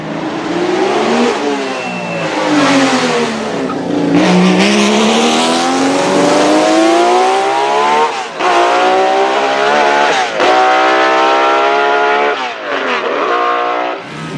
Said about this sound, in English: The first car that I heard was the 12-cylinder Ligier Matra, and that sound just echoes to this day.